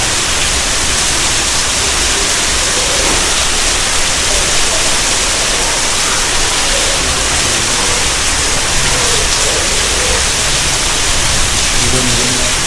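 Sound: rain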